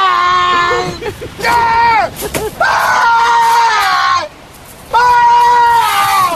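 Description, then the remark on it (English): Tom Hanks in the film Castaway lets out several long, strained screams in bursts, each high and wavering, with short gasping breaks and a pause between the loud outbursts. “Every time he screams in the money pit.”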